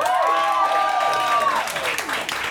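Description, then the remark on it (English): An audience claps steadily, applauding to choose The Never-Ending Story as the option to hear, while someone lets out a long, sustained whoop over the applause, which grows busier and denser toward the end. “So with your applause, who wants to hear The Never-Ending Story?”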